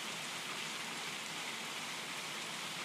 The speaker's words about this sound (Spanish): Apaguen esa lluvia.